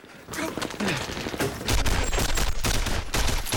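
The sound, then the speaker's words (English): A sustained fusillade of gunfire as two brothers fire through a bedroom window at soldiers: rapid, overlapping sharp cracks that pile into a dense, loud barrage, growing heavier and deeper about halfway through and continuing without pause to the end. “They look at each other, then leap up and fire through the window.”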